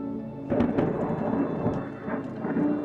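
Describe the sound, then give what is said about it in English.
A sharp crack of thunder from lightning striking a tree and setting it on fire bursts out during a thunderstorm and rolls into a sustained, crackling rumble, with steady rain pattering underneath throughout. “Damn! Got the tree!”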